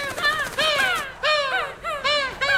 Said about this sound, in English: Look! Oh, seagulls! Happy hello, seagulls!